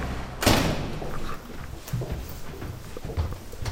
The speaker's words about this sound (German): wo uns der 19-jährige Taifun gerade die Tür geöffnet hat